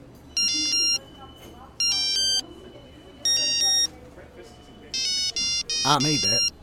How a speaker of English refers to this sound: It's even got a ringtone composer. You want to see this? Watch this. Watch this.